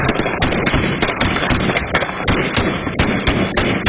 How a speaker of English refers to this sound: Her backyard camera's capturing another shooting. This time, someone runs into the alley opening fire from the back of the same house at the center of this weekend's shooting.